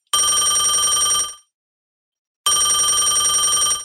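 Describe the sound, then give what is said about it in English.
A telephone rings as a call is placed, in two bursts of about a second each, separated by a gap of silence. Each ring is loud and shrill, with a rapid warbling bell texture and no voices. “Let me dig up her phone number.”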